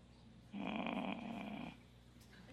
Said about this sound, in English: Is that a light snore, Paula? A monkey? No. It was a groan.